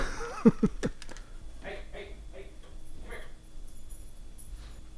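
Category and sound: animal, dog whimpering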